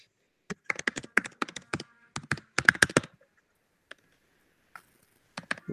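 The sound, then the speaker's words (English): Rapid clicking of keys on a computer keyboard in irregular bursts, a quick flurry, a pause, then more scattered taps, fairly clear with no voices, heard over an online call. “We can hear you typing”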